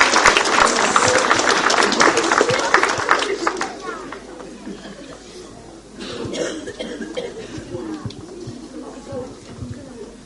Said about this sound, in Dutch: Nou, applaus voor iedereen. Hartstikke goed.